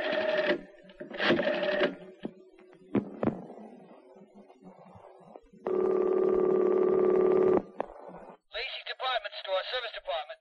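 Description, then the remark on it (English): A phone call to a shop about a refrigerator: a few short electronic tone beeps like number keys being dialed, then a long, steady ringing tone, followed by a thin, phone-filtered voice starting to talk. “I'll give them a call.”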